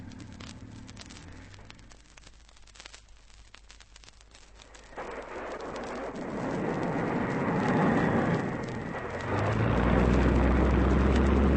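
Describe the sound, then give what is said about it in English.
A low, droning seaplane engine idles on the water, then swells into a loud, rushing roar mixed with splashing spray, building further into a heavy low rumble as the plane gains speed to take off from the water. “Give us half a minute to get clear in the dinghy, then take off.”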